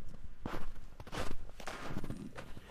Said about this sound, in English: Crunch, crunch, crunch. His feet sank into the snow. He walked with his toes pointing out like this. He walked with his toes pointing in like that. Then he dragged his feet slowly to make tracks.